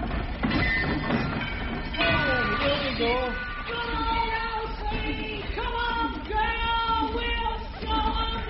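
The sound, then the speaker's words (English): The VSF machine, a large machine, rattles and clatters steadily like a train as it runs out of a factory, with whining, squealing tones rising and falling over the loud, continuous mechanical din. “You just saw the VSF machine run out of the factory,”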